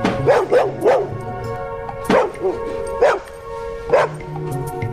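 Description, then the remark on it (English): A dog wags its tail as it lets out a series of loud whooping barks and yips in uneven bursts, with a brief pause between groups, while a person tries to shush it, over a steady low background hum. “The dog wags its tail as it whoops and … tries to shush the dog.”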